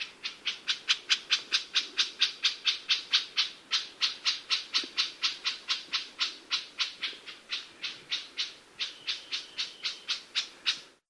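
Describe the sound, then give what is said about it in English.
An Elepaio's scold call: a long, steady series of harsh, raspy notes repeated about four times a second, loud, with no other voices. “Elepaio scold.”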